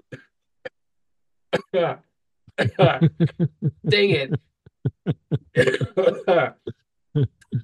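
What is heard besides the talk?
coughing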